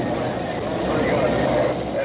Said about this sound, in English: The incessant and urgent chatter heard on the two-way radio of a fire engine parked in the heart of the burning and looting on Chicago's west side. Perhaps half the fire engines in this city are out fighting fires in a 16-block area.